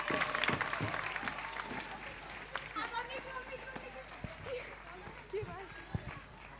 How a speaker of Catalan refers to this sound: I ara sí, els més petits de l'escola! A veure com ens sorprenen, els hi desitgem sort. Un fort aplaudiment.